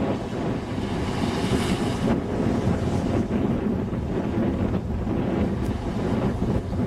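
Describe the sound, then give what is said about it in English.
Strong wind roars steadily across a beach, buffeting the microphone with a dense, low rumbling hiss that stays loud throughout, with brief gusty swells and no voices. “We'll have to see if the winds were actually as strong as they were on the storm.”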